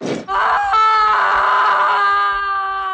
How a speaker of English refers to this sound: Here's a big best scream we've had on the show in a long time. Here you go.